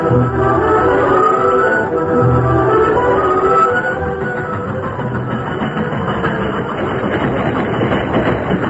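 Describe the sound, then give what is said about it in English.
A westbound train rolls into a town station at night with a steady, heavy rumble and rhythmic clatter of wheels on rails, easing slightly as it slows, with no voices. “Scheduled for a 14-hour stop before continuing its westward journey, the train reached town a few minutes early that night.”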